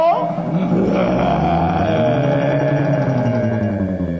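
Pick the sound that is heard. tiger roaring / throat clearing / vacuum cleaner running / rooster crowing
tiger roaring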